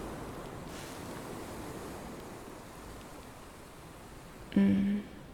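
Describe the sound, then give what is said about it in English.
A steady, rushing wash of ocean waves on the shore at night, with a short, louder tonal hum breaking in briefly near the end. “I love the ocean at night.”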